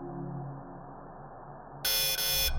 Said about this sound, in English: There was a sudden buzz from the airlock next to us. Lights on the control panel flicked on. Air hissed. Then all went quiet.